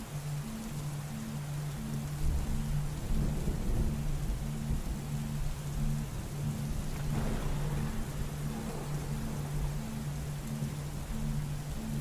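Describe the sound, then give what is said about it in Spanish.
Steady, dense rain hisses throughout as a summer thunderstorm rolls on, with deep thunder rumbling low and heavy a couple of times, swelling and fading without any voices. “Si somos naturaleza, ¿a qué se parecería una tormenta de verano en un ser humano?”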